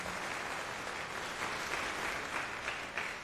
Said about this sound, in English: Give him a warm applause, please.